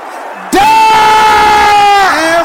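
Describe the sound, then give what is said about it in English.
A loud, sudden burst of an audience shouting a serious prayer together, a sustained strained cry that holds for over a second and then tapers off, forceful. “Can I hear you shouting it?”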